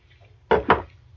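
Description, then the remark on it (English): Two quick gulps of someone swallowing a drink of water, a fraction of a second apart, against a quiet low hum with no talking. “They probably all heard you just gulp.”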